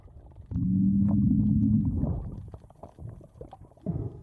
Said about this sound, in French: détecter la partie très grave d'un son de poisson, donc probablement émise par un poisson lointain